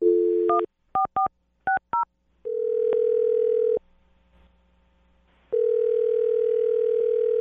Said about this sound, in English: All right, I'm going to dial his phone right now. Here we go.